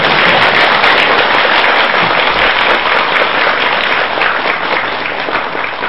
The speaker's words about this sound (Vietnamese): Trước khi vào buổi giảng, xin toàn thể đạo tràng chúng ta cho một tràng vỗ tay thật lớn thật dài.